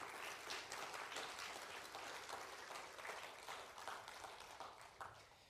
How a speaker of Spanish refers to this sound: Le damos un aplauso.